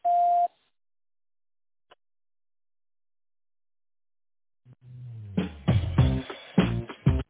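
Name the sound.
telephone system beep tone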